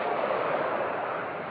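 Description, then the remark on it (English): A steady, dense wash of rushing water, loud, holding an even roar with no pauses or distinct splashes throughout. “Now that's the water. That's action water, man.”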